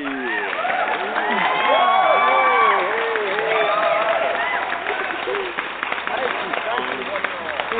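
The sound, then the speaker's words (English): A large crowd cheers and whoops over steady applause, a dense roar of many overlapping voices that peaks early on, then settles into continued clapping and calls. “All right, what a crowd, what a crowd.”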